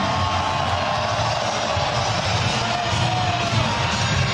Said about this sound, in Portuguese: 3 para Wagner Leonardo. Também tem um pouquinho de vaia, baixinho, mas tem, pouca gente. Maior parte são de aplausos.